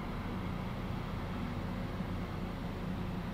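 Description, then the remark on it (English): A low, steady rumble of a slow maintenance train with lights rolling past, a continuous droning hum with no clear clatter or rhythm, fairly quiet and even throughout, with no voices. “Yeah, that's a maintenance train of some kind.”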